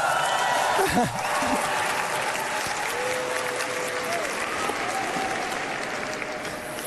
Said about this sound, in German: Also, wenn ihr nicht applaudiert hättet, hätte ich vorgelesen, auf meinem Zettel steht, Applaus abwarten.